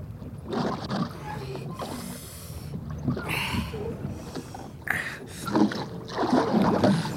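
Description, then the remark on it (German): Oars dip and pull through water in a slow, repeating rhythm, with splashes and swishes as a small boat, its motor switched off, is rowed steadily in a wide arc around Knox Island. “Und nun ruderten sie in einem weiten Bogen um die Insel herum,”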